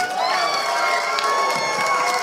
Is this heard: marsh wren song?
no